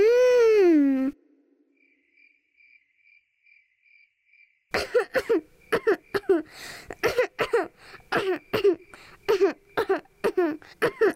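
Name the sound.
repeated coughing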